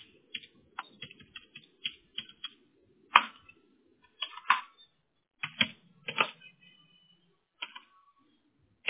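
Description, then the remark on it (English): Rapid, uneven clicking of computer keys as someone types a text message, with bursts of keystrokes separated by short pauses and a few louder, sharper key presses. No one speaks. “I'm typing in your text real quick.”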